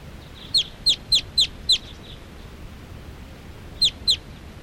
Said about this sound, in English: There are some wild birds here coming around. They're perching in a big tall tree here, and they look like females, all females.